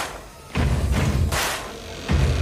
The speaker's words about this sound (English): Get ready for the Warrior Workout. Round one. Warming up. Stamp, stamp, clap. Clap! I want to hear it! Stamp, stamp, boom! Stamp, stamp!